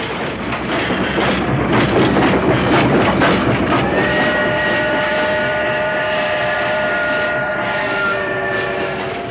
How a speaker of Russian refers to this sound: За это время поезд промчался мимо